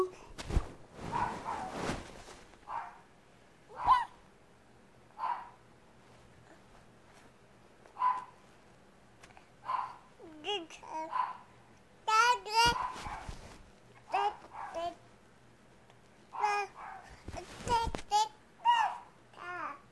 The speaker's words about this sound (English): Stop barking. Had about enough.